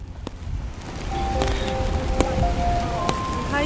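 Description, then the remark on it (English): Steady outdoor rain hisses throughout in downtown Brooklyn, New York City, with scattered sharp drops tapping and a faint tonal whine in the background; no one speaks. “Were you in the rain?”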